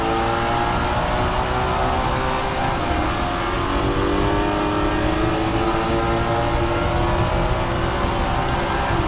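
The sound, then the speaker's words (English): Race cars, with Mike Hawthorne's Jaguar leading the pack ahead of Lance Macklin's Austin Healey, roar past packed stands near the racing pits in a dense, unbroken wash of engine noise, their whining tones rising and shifting as they speed past for the whole stretch, loud and with no voices. “Fans pack the stands near the racing pits, watching the brave racers speed by.”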